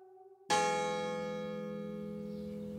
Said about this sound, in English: A bell summons the monks to worship.